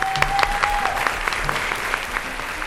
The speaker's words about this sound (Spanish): Un fuerte aplauso para Melpómene, que nos leerá Reflejos de un mar viejo.